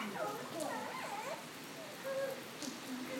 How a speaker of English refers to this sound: So we just had a few claps of thunder that sounded quite close, and then there's been a bit of a gap. No, there's not very much, although the rain is lashing down. It's still quite black, though, I think.